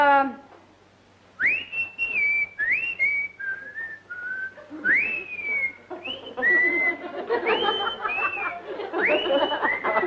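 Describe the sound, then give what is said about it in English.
A person whistles an imitation of a South African yellow-bellied sapsucker call: a string of bright, sliding high-pitched notes, some rising and falling, in quick loud phrases with short gaps, growing busier toward the end. “That was a South African yellow-bellied sapsucker.”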